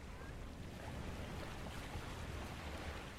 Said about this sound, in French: Et à côté de moi, ma mère s'endort, bercée par le flot des vagues.